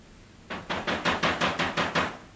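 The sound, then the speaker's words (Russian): A knock on a door: eight evenly spaced, dull raps in a steady, fairly quick rhythm, each a short burst, with no voices. “И вот раздался долгожданный стук.”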